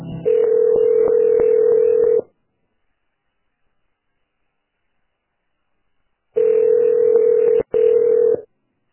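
A phone line rings out: two long, steady mid-pitched ringback tones, each about two seconds, separated by a silent gap, with faint clicks of dialing at the start and no voices.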